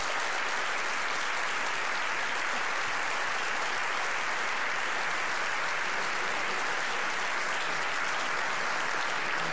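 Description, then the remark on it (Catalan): Sustained applause from an audience greeting Sergi Cuenca and Dani Anglès fills the whole stretch, a dense, steady wash of clapping at even loudness with no pauses and no voices standing out above it. “Doncs podem saludar amb un fort aplaudiment al Sergi Cuenca i al Dani Anglès.”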